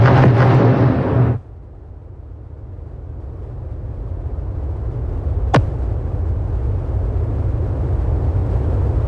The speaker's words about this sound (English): Israel and the Iran-backed group Hezbollah are firing at each other in a spreading of the war. Loud explosions can be heard in Lebanon's capital, Beirut.